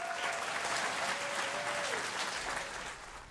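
Sustained applause from an audience, a dense wash of many hands clapping at steady loudness for a few seconds before starting to fade, with a faint tone sliding downward underneath.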